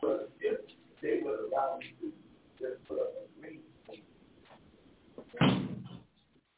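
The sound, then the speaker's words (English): A door is shut with one loud thud near the end, following a stretch of indistinct voices talking. “Let me close that door there.”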